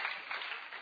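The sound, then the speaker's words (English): A crowd applauds in a dense, steady wash of clapping that holds at an even level for the whole brief moment, with no distinct voices coming through. “Давайте аплодисментами пригласим сюда.”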